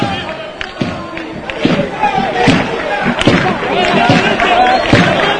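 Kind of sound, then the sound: crowd, stadium crowd clapping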